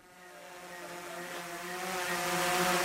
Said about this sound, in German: 2 Meter über dem jungen Wissenschaftler von der Uni Rostock schwebt eine ferngesteuerte Kameradrohne, ausgerüstet mit einem sehr präzisen Ortungssensor.